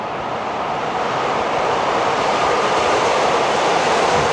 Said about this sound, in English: The Brooklyn Bridge, 7 a.m. Rush hour, the subway.